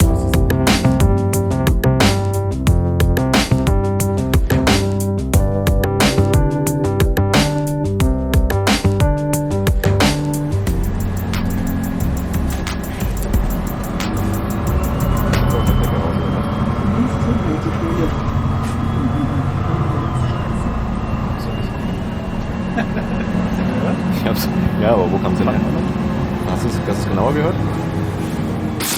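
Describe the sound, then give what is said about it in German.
Inside a moving bus: a steady low engine rumble and road noise fill the ride, with rhythmic clicking and rattling early on and faint, indistinct voices in the background. “Schöne Aktion, ehrlich gesagt, immer wieder mit dem Bus zu fahren, um den Sound zu bekommen.”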